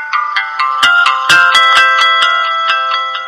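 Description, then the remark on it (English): A short, bright electronic jingle plays alone: a quick run of chiming synthesized notes with a sustained tonal backing, a mobile phone's power-on startup melody after the end key is held down for a couple of seconds to turn it on, loud, for about three seconds. “You should be hearing music letting us know the phone is active.”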